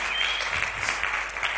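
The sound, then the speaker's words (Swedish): A crowd applauds a man being welcomed onto a stage, a dense, steady wash of many hands clapping throughout, with no voices standing out above it. “Ge honom en applåd innan han ens har gjort någonting.”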